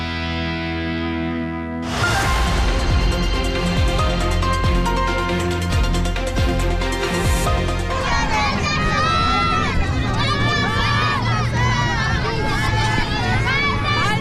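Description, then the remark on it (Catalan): A brief musical jingle gives way to a loud, dense roar of children shouting with joy after seeing the Three Kings arrive at the port of Palma, Mallorca, their high excited voices rising and falling in a continuous cheering clamor. “Aquests que sentiu són els crits d'alegria dels al·lots després de veure arribar els Reis al moll de Palma.”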